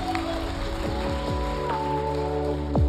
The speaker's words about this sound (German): Komm, wir geben mal jedem, der das gerade zum ersten Mal gebetet hat, einen riesen Applaus.